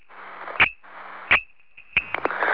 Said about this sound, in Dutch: Dat is een vervelende storing die op het ogenblik is. Het is een hoge fluittoon.